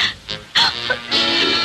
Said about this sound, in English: She's having trouble breathing. She fainted.